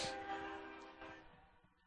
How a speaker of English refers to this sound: Got another train coming by. Close the window so that we don't hear the whistle as it's going by.